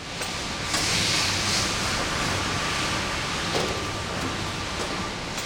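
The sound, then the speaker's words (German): Steady, hissing industrial machine noise fills the space, with a few soft mechanical thumps and shifts as automatic wafer-baking machines open and close bare heating surfaces, pressing simple flour-and-water dough into wafers and edible paper. No voices. “Automatische Backanlagen öffnen und schließen blanke Heizflächen und pressen den einfachen Teig aus Mehl und Wasser zu Oblaten und Esspapier.”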